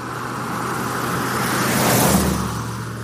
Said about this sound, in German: Der Wagen rollt eine Landstraße entlang. Strahlender, spätsommerlicher Sonnenschein.